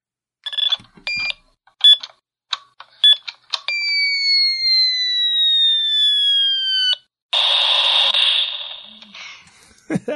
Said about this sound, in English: Hey guys, this week's noisy is a 2400 baud modem connecting to the internet.